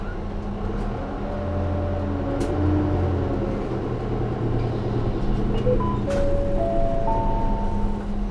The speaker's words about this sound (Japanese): ご乗車ありがとうございます。このバスは玉ヶ谷グリーンハイツ自由園行きです。次は丸山一丁目。丸山一丁目でございます。